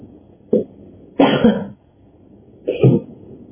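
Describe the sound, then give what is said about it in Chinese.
A teacher gives three rough bursts of coughing and throat clearing, one short, one longer and harsher, then another, fairly loud, with no talking. “老师咳嗽了，开口乱道。”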